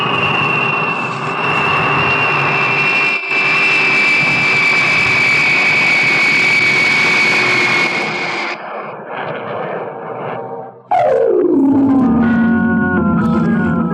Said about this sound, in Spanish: El avión aterriza a alguna distancia y llena los ámbitos de la selva cercana con el estruendo de sus turbinas jet